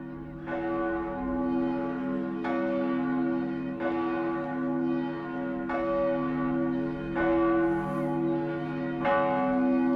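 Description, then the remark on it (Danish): Cathedral church bells ring steadily with no talking, each strike landing roughly every 1.5 seconds over a sustained, layered hum of low tones that stays fairly loud throughout. “Det er fra mange forskellige kirker, men her er det altså Viborg Domkirke.”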